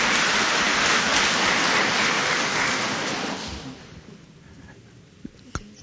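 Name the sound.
applause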